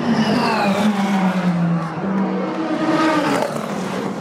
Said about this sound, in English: By rule, a car in the experimental class can't win, but the Camaro ZL1, with its V8 caterwaul, drove the crowd wild, and the car actually finished all 24 hours of Le Mans, which was all the team was going for.